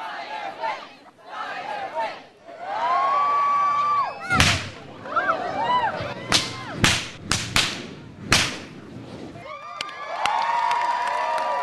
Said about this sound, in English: reaches into an old trunk and pulls out a long black whip, heavy and dripping with gas. And right on cue, the audience begs him to light it.